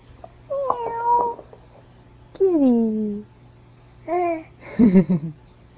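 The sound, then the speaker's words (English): A cat meows about four times, drawn-out calls that slide downward in pitch, spaced by short pauses, clear over a low steady hum. “See the kitties?”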